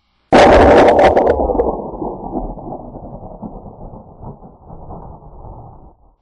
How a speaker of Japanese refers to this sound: 雷。 臨終、運命の雷。